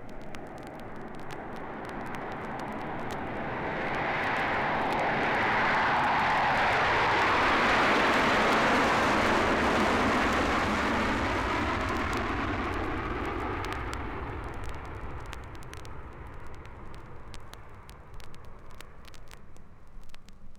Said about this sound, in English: Join me at the airport for a jet flight.